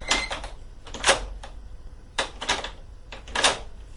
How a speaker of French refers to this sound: fait agir le levier qui met en mouvement le verrou. La porte s'ouvre.